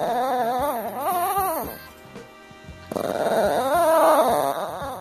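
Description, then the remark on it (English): A dog named Angel makes a rising, wavering whine-like vocalization in two bursts separated by a short pause, with a raspy, zipper-like texture like a tent being unzipped, fairly loud, no talking. “Yesterday, producer Taylor Quimby shared a curious sound that his dog, Angel, makes.”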